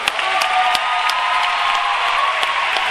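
Steady applause from a live audience fills the room, a dense wash of many hands clapping at once with a few sharper individual claps standing out, continuous and fairly loud throughout.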